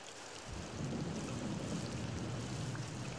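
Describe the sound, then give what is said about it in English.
Steady rainfall hisses without a break, with a deeper rumble joining after a moment, like wind or thunder. It is a continuous wash of sound with no voices. “It is in the sound of the wind, the singing of birds, the patter of rain.”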